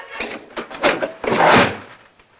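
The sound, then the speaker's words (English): A few quick wooden clatters lead into a louder slam as Mr. Harrington grabs the needle off the record and slams shut the lid of a Victrola record player in a small dining room; it fades quickly. No one speaks. “Mr. Harrington grabs the needle off the record, then slams the lid shut.”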